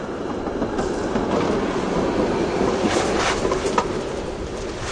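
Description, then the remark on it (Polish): A tram, a bus and a car accelerate to 40 km/h and roll past, a steady rumble of wheels and engines, with brief higher squeals near the end as the vehicles make a normal service braking stop. No one speaks. “Po to, żeby pokazać Państwu, jak pojazdy z takiej prędkości się zatrzymują.”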